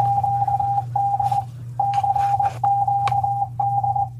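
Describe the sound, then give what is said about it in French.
Morse code CQD distress beeps sent by the ship Titanic: a steady mid-pitched tone keyed on and off in long and short bursts, playing clearly over a low radio hum and faint static. “Il ne peut pas ne pas avoir entendu le code CQD qu'il diffusait en morse.”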